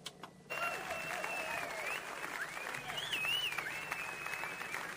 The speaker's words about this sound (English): Give Miss Mary Ann a round of applause, y'all. She's so sweet. She had me my towel and stuff.